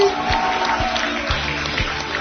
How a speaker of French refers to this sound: Nous sommes en direct de la Monusco sous vos applaudissements. Le maximum de bruit.